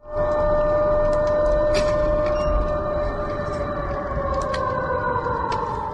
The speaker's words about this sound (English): That was the air raid siren going off in Belgorod, a region of Russia which borders Ukraine.